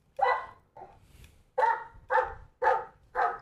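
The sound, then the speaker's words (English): A big, giant-mouthed dog barks loudly, a vocally projected bark used to get someone's attention: six deep, booming barks in a steady rhythm, one slightly softer than the rest, with no other voices. “So some may howl at times, but they mostly rely on a very vocally projected bark to get someone's attention.”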